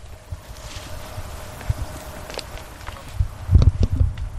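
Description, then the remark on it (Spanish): Several people's footsteps crunch irregularly over a loose, sandy path outdoors, soft at first and then louder near the end, with a light wind hiss and no talking: a search team looking for a person still missing a year after the DANA floods, at the Barbarán irrigation channel in Alcudia, Valencia province. “Esto que escuchas son las pisadas del operativo que a esta hora sigue buscando delante de mí a una de las dos personas que continúan desaparecidas por La Dana.”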